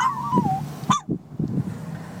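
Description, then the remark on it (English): A dog lets out a short, wavering howl that slides downward in pitch, followed by a brief yelping rise, with low rumbling background noise throughout. “Can you howl?”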